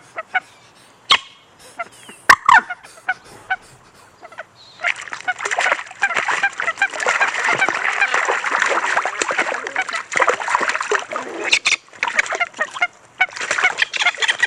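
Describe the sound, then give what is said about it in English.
Waterfowl fight on a duck pond, facing up to each other and flying up in the air a little, harsh honking calls rising into a loud, chaotic burst of flapping and splashing that continues without pause for several seconds. “And this is the noise they make as they face up to each other, fly up in the air a little bit, splash and fight and swear like you've never heard swearing before.”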